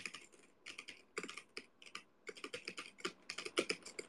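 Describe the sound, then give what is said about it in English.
Rapid typing on a freshly cleaned mechanical keyboard with unlubed Kailh Silver linear switches, a steady run of clacky keystrokes in quick bursts, fairly loud, with no one speaking. “They're not lubed, but they're Kalua Silvers, I think.”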